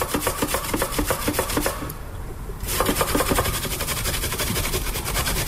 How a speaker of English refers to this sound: There we go, we got the grater out. As I said, this is quite controversial. We're going to be grating our carrot.